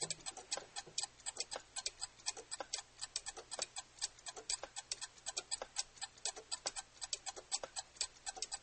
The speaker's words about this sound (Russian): Наступила гнетущая тишина, в которой слышно тиканье карманных часов.